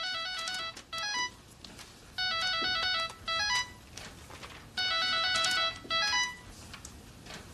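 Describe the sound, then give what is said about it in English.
A cell phone ringtone plays a bright, electronic melody in repeating bursts with short pauses between phrases, fairly loud over a faint background hiss, with no one speaking. “All right, I'm gonna call a cell phone.”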